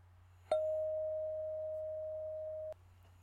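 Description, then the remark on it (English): A single bell is struck to mark the end of a mindfulness session and rings with a clear, steady tone for about two seconds before cutting off abruptly, over a faint low hum with no one speaking. “When you hear this bell, that means that this session is done.”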